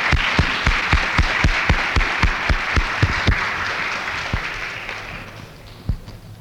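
A crowd at a religious meeting applauds to welcome Minister William 13-X, with a few loud claps cutting through in a steady rhythm over the dense wash of clapping, which gradually thins and fades toward the end.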